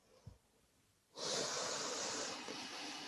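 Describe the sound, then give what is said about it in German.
After a brief quiet moment, a long, deep, airy breath begins and continues steadily for a couple of seconds as part of a guided deep-breathing exercise, with no talking. “Und wir atmen jetzt 4-mal zusammen tief ein und aus.”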